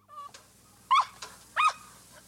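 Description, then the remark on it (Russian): A dog named Arto yelps sharply twice, loud, with a couple of fainter, shorter yips around them, as it is being beaten. The cries come in quick, pained bursts, and no one speaks. “Не смей бить, не смей бить собаку, проклятый.”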